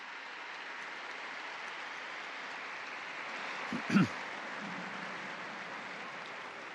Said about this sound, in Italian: Un applauso a questi nuovi beati.